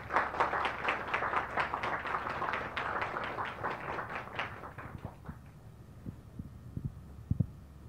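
An audience claps steadily for about five seconds, the applause thinning and dying away, followed by near-quiet with a few soft low thumps.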